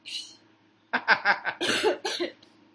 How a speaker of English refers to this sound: Pardon my coughing throughout this. I'm still hungover from last night.